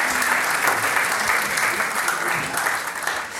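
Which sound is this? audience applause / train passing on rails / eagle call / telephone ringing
audience applause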